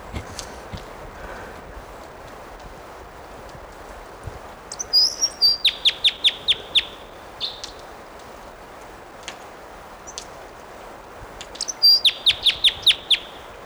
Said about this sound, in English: Here's that bird.